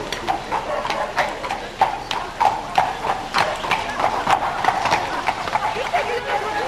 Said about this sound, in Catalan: Quan estaven jugant, el Mohamed va veure l'Usa, és a dir, el mestre, que s'acostava muntant amb el seu ruc.